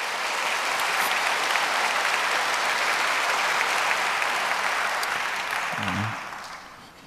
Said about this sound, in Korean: 축하의 박수 주시기 바랍니다.